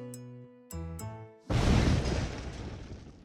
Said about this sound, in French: Triste, elle s'apprêtait à retourner dans sa chambre quand soudain, une détonation assourdissante fit trembler les murs de sa maison.